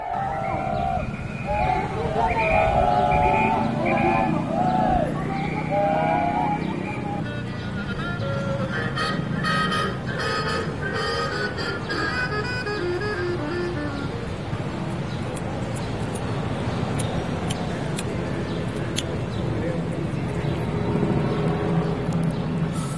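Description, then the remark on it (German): Busy street noise in Mexico City on a Wednesday midday, with a demonstration and vendors selling their wares: a steady rumble of traffic under a murmur of indistinct voices, with some tonal, melodic calls early on and scattered clatter throughout. “Die Megametropole Mexiko-Stadt an einem Mittwochmittag. Alles wie immer. Straßenlärm, eine Demo gegen gewaltsam Verschleppte, Händlerinnen und Händler verkaufen ihre Ware.”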